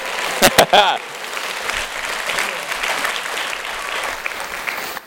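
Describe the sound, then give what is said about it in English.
An audience breaks into applause, many hands clapping in a dense, steady wash that holds for about five seconds before cutting off, with a few sharper claps and a brief voice near the start. “True inspiration comes from, well, if you're going to clap, do it for real then.”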